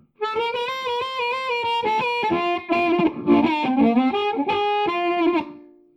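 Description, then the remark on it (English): A clean electric guitar plays a lively run of single notes and chords through a '57 Champ amp model on a multi-effects device, bright and slightly gritty, with a large room reverb tail ringing out at the end. “Followed by a 57 Champ with large room reverb.”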